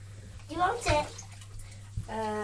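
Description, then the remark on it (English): Water pours steadily into a container as a drink is served, a continuous hiss with a low hum beneath, while a child's voice briefly chimes in over the flow. “Water's coming.”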